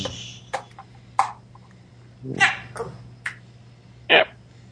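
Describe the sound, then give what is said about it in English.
A dog gives about six short, sharp barks and yips at irregular intervals, sounding thin and boxy as if heard through a phone, with a steady low electrical hum underneath. “Somebody's pickup sounds like a dog.”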